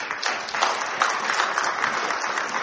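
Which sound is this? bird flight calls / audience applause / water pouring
audience applause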